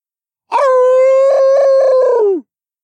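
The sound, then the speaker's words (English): A single long howl in a forest, loud and close, holding a steady pitch for about two seconds with a slight wavering pulse before sliding down and cutting off. Nobody speaks. “This howl was the closest one yet, and it had the desired effect of stirring cowards from their hiding places.”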